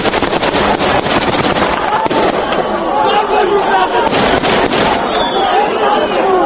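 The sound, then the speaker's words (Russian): Dozens of soldiers fire into the air at once in rapid, overlapping volleys, a dense crackle of loud bangs that barely pauses, with a crowd's shouting voices mixed underneath throughout. “Десятки бойцов одновременно начали стрельбу в воздух.”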